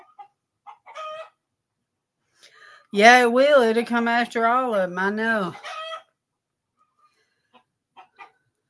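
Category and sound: bird, chickens clucking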